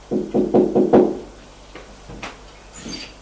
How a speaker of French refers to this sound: La porte est entrouverte. Il voit qu'il y a un filet de lumière. Gilbert tape à la porte. Rien. Monsieur. Tape encore une fois.